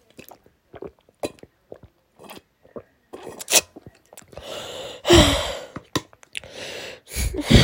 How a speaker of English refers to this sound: Sorry that I'm so sick and I can't talk even. I'll be okay. I'll get better. See, I'm drinking some water.